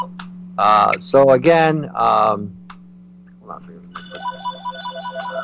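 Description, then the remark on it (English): A landline telephone in an office starts ringing partway through, a rapid electronic warble repeating steadily at moderate volume, after a stretch of animated voices and a short pause. “Is that your phone?”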